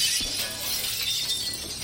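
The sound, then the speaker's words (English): A house's living room window pane smashes as a small hand-thrown stone strikes it, a sharp crash followed by a bright, sustained tinkle of glass shards scattering and falling, loud. “and felt the stone naturally leave my hand, shattering the glass.”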